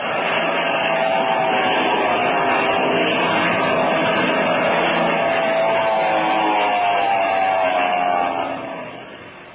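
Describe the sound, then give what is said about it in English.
An airplane engine roars in a steady, droning rush with slight shifts in pitch, holding strong for several seconds before quickly tapering off at the end, as a black plane comes over a ridge and dives straight toward the people watching. “There's a black plane coming over the top of that ridge. Oh. And he's heading straight for us.”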